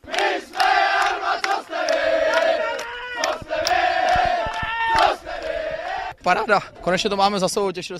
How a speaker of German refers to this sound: Nach der Partie herrschte ausgelassener Jubel in der Kabine der Elbestädter